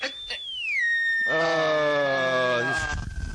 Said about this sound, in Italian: La sgonfio. Si sgonfia.